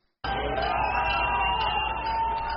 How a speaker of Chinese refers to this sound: 在欢呼声和口号声中，外交官、祝福者和示威者都在观看古巴国旗在新成立的大使馆外面升起。